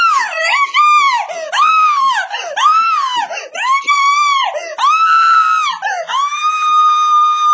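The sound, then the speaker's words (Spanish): A voice imitates a woman screaming angrily: a continuous run of loud, shrill, wavering shrieks rising and falling in pitch, with no pauses for several seconds. “Y me pongo a gritar desde acá, la imaginamos ahí en Panamá.”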